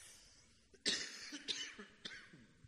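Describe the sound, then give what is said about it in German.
A fairly loud cough bursts out, followed by a few smaller hacking coughs and throaty rasps over about two seconds, with no talking. “Ich möchte euch mal heute, trotz und mit Husten, den Mordechai als Menschen mal ein bisschen vorstellen”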